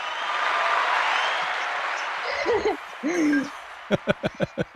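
A dense wash of audience clapping fades, followed by a couple of hooting cheers, then five sharp, evenly spaced handclaps close out the burst.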